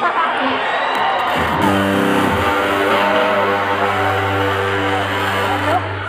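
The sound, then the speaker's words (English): Over a murmuring, cheering crowd, a distorted electric guitar kicks in with loud, gritty low notes that hold and buzz steadily, shifting pitch a couple of times before ringing on to the end. “Okay, he's about to bring some nasty tones.”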